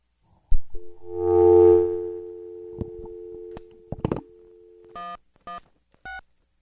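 Telephone line tones as a call is connected with the line grounded: a steady dial tone hum, a few clicks and short beeps like keypad dialing, then three evenly spaced electronic tone bursts. No one speaks.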